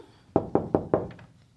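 Four firm, evenly spaced knocks on a wooden door by Henry, fairly loud, followed by a couple of faint trailing taps; no voices.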